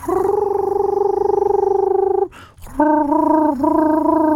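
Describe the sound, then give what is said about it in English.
A screech owl's whinny: a soft, steady trilled call, loud and mellow, held for about two seconds, then a brief rustly break before a second trill that wavers once midway, like a soft coo. “There's your screech owl. And that's way loud.”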